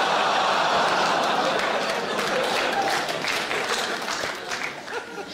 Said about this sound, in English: Applauding that, you should be ashamed of yourself.